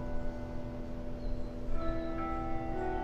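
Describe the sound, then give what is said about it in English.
A church bell rings out steadily, signaling 11 o'clock, its deep, resonant tones overlapping and humming as fresh strikes layer over the lingering ring, with no one talking. “Hold on, let's take a moment to allow the bell to ring.”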